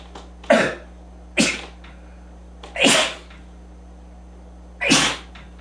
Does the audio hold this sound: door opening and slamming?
no